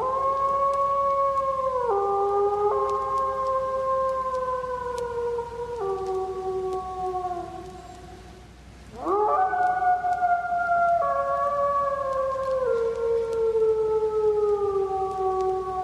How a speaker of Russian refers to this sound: Ну, конечно, это волк.